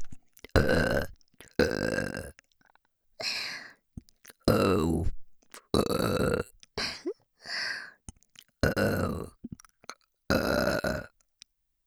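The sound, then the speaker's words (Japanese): A string of about nine loud, consecutive burps comes one after another with short silent gaps between them. Some are long and drawn out, others short. Nobody speaks. “連続ゲップの方が好きなんですね。”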